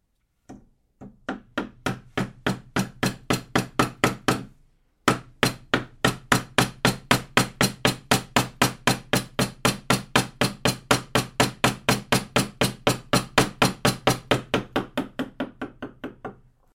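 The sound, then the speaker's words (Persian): A steady run of sharp metallic taps, like a hammer striking a chisel, repeating rapidly and evenly, with a brief pause early on before the rhythmic strikes continue. “چون دهانی بر صورتم نبود، دستان تو را که دهانی بر صورتت نبود گرفتم و به خانه آوردم تا با قلم و چکش دهانی برایت بسازم”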